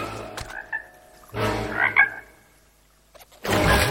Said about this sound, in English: Then the two frogs call out from their lily pads.